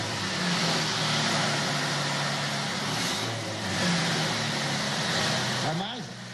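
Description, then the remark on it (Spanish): A V8 pickup truck engine rumbles steadily at idle, a loud, throaty drone that swells slightly midway before a brief rev near the end. “A mí me encanta el sonido un motor V8 de la F1.”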